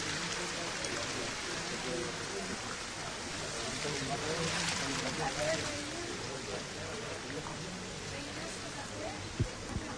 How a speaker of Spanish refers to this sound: Tened cuidado con los huecos estos, aquí veis que como el agua va corriendo.